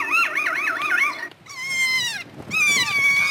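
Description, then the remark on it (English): A kea, a parrot species native to New Zealand, gives its play call: a loud, warbling trill followed by two drawn-out, squealing harmonic calls that waver and bend in pitch, with short breaks between them and no talking. “That is a kia, a species of parrot native to New Zealand.”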